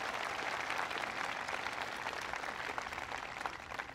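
A crowd at a college event applauds steadily for Ed Montgomery, executive director of the White House Council on Auto Communities and Workers, a dense wash of many hands clapping at once, sustained and fairly loud throughout with no talking over it.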